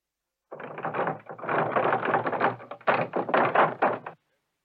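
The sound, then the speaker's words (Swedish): In a Bamse children's story, Bamse knocks on the wolf's door: rapid, insistent hard raps in a dense run lasting a few seconds with a brief pause midway, then stopping abruptly. “Vargen sitter och drömmer om den fina skatten när det knackar på dörren.”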